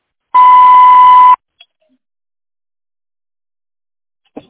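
voicemail tone beep

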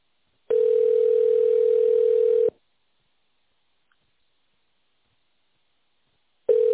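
telephone ringback tone

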